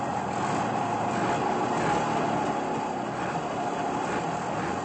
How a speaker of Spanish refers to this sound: En junio desaparecerá del mercado checo, después de casi 57 años, la legendaria moto Yawa 350. Su motor de dos tiempos ya no cumple con las severas normas ecológicas y en Europa Occidental terminó su venta el año pasado.